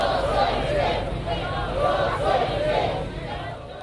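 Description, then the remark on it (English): Crowds lining the streets cheer a procession that follows in reverse the route Castro and his rebel fighters took from the Sierra Maestra Mountains to the capital, a continuous, fairly loud roar, many voices swelling in waves over a dense wash of babble, with no single speaker standing out. “The procession was cheered by crowds lining the streets.”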